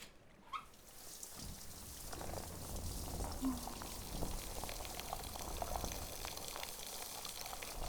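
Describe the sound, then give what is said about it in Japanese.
Steady running water pours and splashes continuously after a brief quiet start, rinsing soap foam off a body, with a soft fizzing, bubbly texture throughout. “じゃあ、洗い流すね。”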